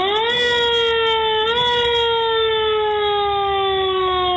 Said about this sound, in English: Visitors can book a tour in one of Mike's several Ford Galaxy squad cars. They'll even turn on the siren for you.